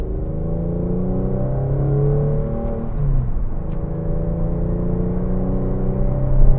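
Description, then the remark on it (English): The engine of a gray front-wheel-drive car with a loud, raspy aftermarket exhaust drones steadily, its pitch climbing and dipping as it revs and shifts, with no voices present. “And then, of course, as you can probably tell, it has some really nasty exhaust on it.”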